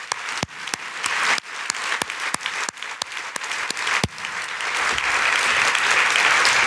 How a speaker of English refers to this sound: Having said all that, I do want to be among those to congratulate WBAA for 90 years on the air. Huge applause.